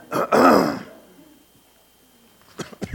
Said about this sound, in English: I love allergy season because who's coughing? I'm right there with you.